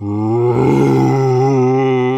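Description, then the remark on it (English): A voice imitates the noise of a new construction drill, likened to the sound in the Steven Spielberg version of War of the Worlds, with one loud, sustained, low droning groan. It holds a steady buzzing pitch with a slight waver for about two seconds. “And the new drill sounds like that sound in War of the Worlds, you know, the Steven Spielberg version where he goes...”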